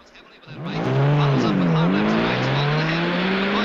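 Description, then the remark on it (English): A car engine roars up loudly while tires squeal in a wavering, pitch-bending whine, the sound starting abruptly and staying strong throughout. “Charlie starts on hearing the car.”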